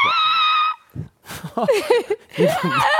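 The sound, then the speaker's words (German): A person imitates a mating tortoise's scream with a shrill, strained, steady squeal lasting under a second, followed by breathy laughter and animated voices. “Die schreien auch.”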